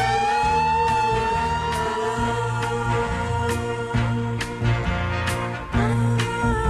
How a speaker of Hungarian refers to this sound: Utolsó beszélgetésünket egy száguldó mentőautó szirénája szakította félbe. Megijedtem, mint mindig, ha valahol a sziréna felhangzik.